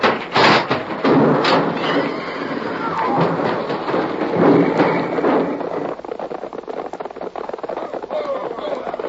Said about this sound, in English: It's a wagon. It's my stage. They pulled it out. I can't stop. The brake. It don't work. We're going to crash. Pull over to the side. Too late. I'm going to jump.